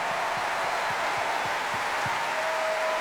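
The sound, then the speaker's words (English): An audience claps steadily in a sustained, dense round of applause welcoming two Doctor Who composers who join the BBC National Orchestra of Wales to perform a classic Doctor Who medley, a broad wash of overlapping hand claps with no voices standing out. “Please give them a huge classic round of applause.”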